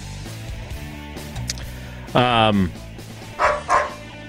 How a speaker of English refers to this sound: I'm looking forward to my dog not barking during That's the race.